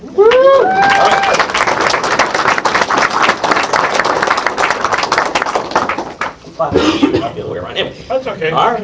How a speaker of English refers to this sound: All right. So I'd like to clap for myself.